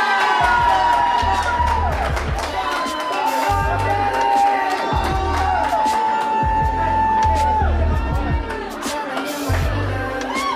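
A crowd cheers loudly and steadily, with whoops and high shouted voices rising above a dense wall of applause-like noise that holds for about ten seconds.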